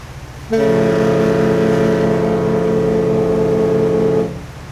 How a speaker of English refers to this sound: As the boat's twin 600-horsepower engines churned up the Mississippi, visitors dined, gambled, and remembered.